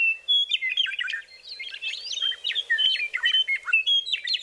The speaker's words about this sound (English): Over time, Inslee grew to love the Meadowlark's song, not only for its melody, but for how it connected him to the natural world. I would describe it as summoning us from winter to spring. So it's like it announces the change of the seasons.